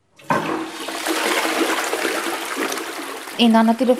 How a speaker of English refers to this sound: the family doesn't flush the toilet often anymore because it uses too much water. When they do, it's with recycled water.